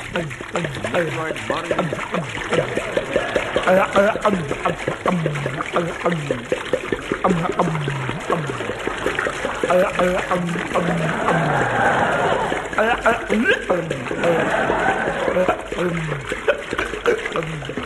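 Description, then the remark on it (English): Pure alcohol pours steadily from a 5-gallon jar through a funnel placed in someone's mouth, a continuous splashing gurgle, fairly loud, while voices talk over it throughout. “Put this funnel in his mouth. Pass me that 5-gallon jar of alcohol. Taking precaution now. Pouring it.”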